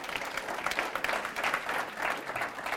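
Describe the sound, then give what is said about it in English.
An audience claps steadily for a few seconds, a dense, crackling wash of many hands at a moderate level, swelling slightly in waves with no voices standing out. “Don't clap, it'll take us about 8 hours.”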